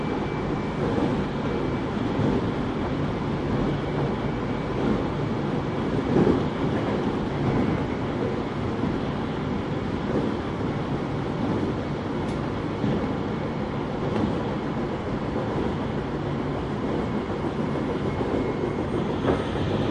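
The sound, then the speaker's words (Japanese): A local commuter train bound for Tōbu-Dōbutsu-Kōen rumbles steadily along the rails, a continuous roar of wheels and carriage noise with faint rhythmic clatter, and no voices heard. “この電車は各駅停車、東武動物公園行きです。”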